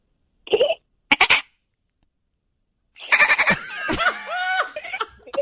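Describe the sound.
People imitate dolphin chatter with their voices: two short squeaky bursts, a pause, then a longer loud run of high whistling squeals, trills and clicking sputters.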